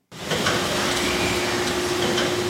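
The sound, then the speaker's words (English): Machinery on a solar panel factory assembly floor, the Heckert Solar plant in Chemnitz, Germany, runs with a steady, loud mechanical whir and a constant low hum. Faint whooshes recur as bright yellow robotic arms pick up silicon solar cells and affix them to glass panels. No one speaks. “Bright yellow robotic arms appear to be waving and then saluting as they pick up silicon solar cells and gently affix them to glass panels here at the Heckert Solar Assembly Floor in Chemnitz, a German city near the Czech border.”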